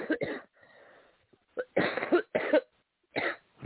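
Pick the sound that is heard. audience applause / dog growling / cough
cough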